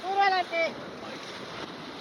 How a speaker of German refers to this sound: Das Schlauchboot schießt durch Stromschnellen, wird hin und her geworfen von den Wassermassen des Rio Pato, der sich aufbäumt, sich schäumend und gurgelnd durch dichten Urwald und wildromantische Schluchten schlängelt.